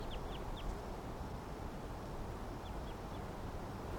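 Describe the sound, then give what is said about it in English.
Wild birds, a flock of five near a net, call in the background: two quick runs of three high, short chirps, one at the start and one near the end, over a steady rushing, wind-like noise. “Wild birds in the background.”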